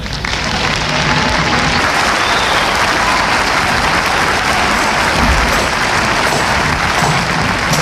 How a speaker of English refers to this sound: Now I want everybody to clap your hands in this group. Come on!